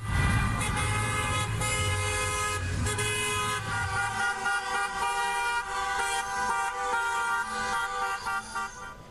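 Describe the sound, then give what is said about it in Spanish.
Many car horns honk at once in a sustained, overlapping chorus, loud, with engine rumble underneath: a protest convoy of temporary public workers in Spain, driving cars decorated with yellow and black balloons and signs with their demands, in Madrid and 26 other cities. “Marcharon en sus autos adornados con globos amarillos y negros y con carteles con sus reivindicaciones rechazando las condiciones precarias laborales en Madrid y en otras 26 ciudades.”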